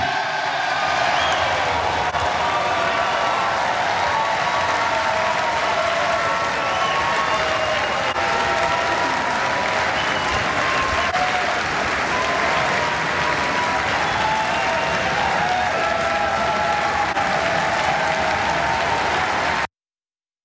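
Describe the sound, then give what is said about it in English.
Loud, sustained applause from a large crowd in the House of Representatives chamber after Kevin McCarthy is elected Speaker of the House: a dense steady wash of many hands clapping with scattered cheers and voices mixed in, ending abruptly. “And look, they're clapping like it was the first time, like they're just fresh as daisies, even though that was late on Friday night when, yes, Representative Kevin McCarthy did clinch the vote to be”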